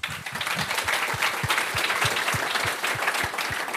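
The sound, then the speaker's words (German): An audience at an exhibition event applauds steadily, a dense wash of many hands clapping at a fairly loud, even level, with a few sharper individual claps standing out through the roughly four seconds. “So bescheiden wie er ist, Applaus.”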